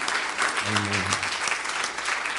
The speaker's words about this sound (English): So praise the Lord. Let's just give the Lord a hand clap of praise for these things that we've heard tonight.